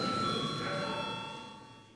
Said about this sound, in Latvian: Lūdzu zvanu.